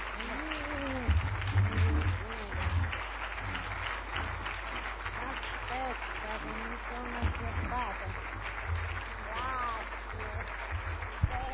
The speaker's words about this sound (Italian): e purtroppo, ripeto, salutiamo la dottoressa che deve rientrare anticipatamente, diversamente anche da quanto aveva previsto in un primo tempo, e credo che il nostro applauso possa essere, diciamo, quello che possiamo dire tutti insieme.